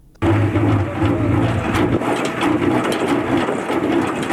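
A honey extractor machine runs steadily at a beekeeping site in the high mountains of Andarab, Baghlan province, giving off a loud, continuous mechanical whir and rattle over a low droning hum that kicks in abruptly and holds without pause. No one speaks.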